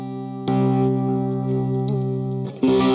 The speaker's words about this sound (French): Alors, la Pineapple, c'est ma disto principale, en fait, qui est très belle. Je trouve qu'elle restitue bien toutes les fréquences, quoi.